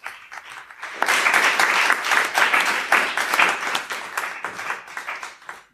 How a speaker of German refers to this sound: Ja, ich bitte zu mir vor das Team FFT Juhe, ein ganz großer Applaus schon mal.